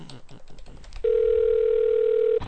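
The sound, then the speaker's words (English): A steady, loud telephone dial tone, heard while reconnecting a phone call, hums without a break for over a second, following a brief stretch of low, muffled background noise and clicks. “Let me try to get back on the phone with these fine people.”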